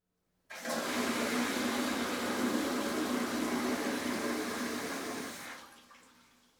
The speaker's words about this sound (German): Genau, hören wir uns mal an. Als erstes eine Klospülung aus dem Vorderhaus.